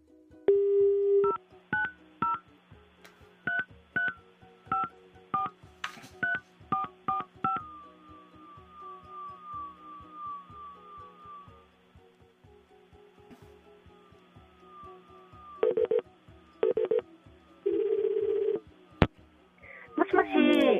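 A run of rapid touch-tone beeps as a phone number is keyed in for a radio phone interview, followed by a steady tone and several repeated ringback pulses near the end, all clear with no talking.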